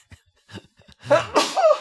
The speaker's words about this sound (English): I have to sneeze. Oh.